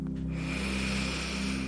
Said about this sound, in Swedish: Är du redo för dagens mindfulnessövning? Andas in.